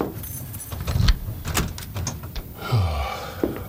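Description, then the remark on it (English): A closet door is closed and locked: a series of sharp clicks and knocks like a latch and lock rattling, then a short creak as the door swings, ending with a final click. “Okay, I'll lock the closet door.”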